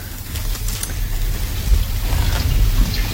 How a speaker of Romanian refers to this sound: Plouă cu găleata.